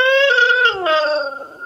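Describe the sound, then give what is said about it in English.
A dog whimpers over a FaceTime video call with its owner in one drawn-out, high, nasal whine that slides gradually lower in pitch, heard alone with no talking. “By the way, the first thing is the dog, not the nurse.”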